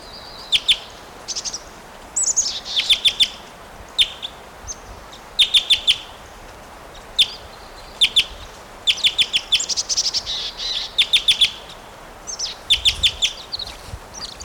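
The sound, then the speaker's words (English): A male bird that has just flown down near a cage gives repeated bursts of high, sharp chirping calls, short clusters of rapid calls separated by brief pauses, standing out clearly over a low steady background hiss. “He is giving some calls now.”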